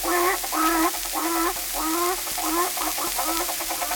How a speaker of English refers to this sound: Hey, look out for them little ducks now. Look out.